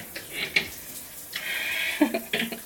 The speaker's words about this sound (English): I'm in the shower, as you can probably hear.